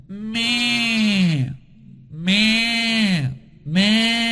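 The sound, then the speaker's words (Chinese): A person with their nose pinched shut imitates a sheep's bleat three times as a singing exercise to bring the voice into the nasal cavity, with a pinched, nasal tone, each drawn-out "meh" wavering in pitch and separated by short pauses, clear with no other sounds. “哎，现在呢我们试着把你的声音带入到鼻腔里面啊，我们先把鼻子堵住，然后呢学一下羊的叫声。”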